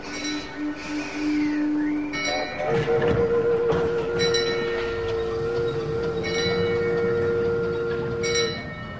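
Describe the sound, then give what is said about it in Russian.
Slow, evenly spaced ringing strikes of a brass bell, part of twenty in all, each clang lingering, over a steady loud rumble and drone of working machines. No one speaks. “Раздалось 20 мерных и звонких ударов в колокол.”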